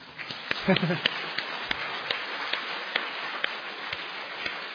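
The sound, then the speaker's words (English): An audience claps in a steady, moderate patter of overlapping hand claps, with a few sharper individual claps standing out and a brief murmur of voices near the start. “There's nothing more miserable than a half a clap.”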